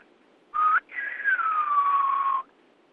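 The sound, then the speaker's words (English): A clear lip whistle of the Spanish word "adios", in the manner of a whistled Spanish dialect: a short steady note, a brief gap, then a longer tone that rises slightly before gliding gradually down, imitating the melody of the spoken word. “The whistles that I were giving you were just lip whistles.”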